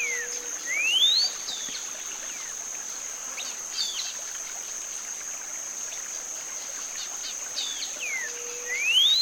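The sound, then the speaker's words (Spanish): Middle American grayish saltator whistled song: two clear, rising whistled phrases that sound like questions, not repeated right away, set against a steady high insect drone and scattered chirps from other birds, including a social flycatcher calling at the start. “Ya escuchemos el otro canto muy silbido en este coro, el saltador gris mesoamericano.”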